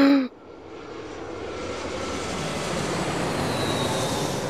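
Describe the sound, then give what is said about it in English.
A steady, roaring airplane engine at Moscow Domodedovo Airport, under a dark grey sky on a freezing December day, fills the air after a brief cut. It is a broad whooshing drone that swells slightly and holds, with a faint high whine riding on top. “Detective Inspector Brian Tarpey steps off the plane at Moscow Domodedovo Airport.”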